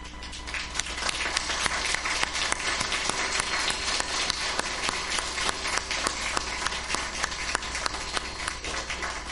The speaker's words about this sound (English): I think our kids deserve a round of applause.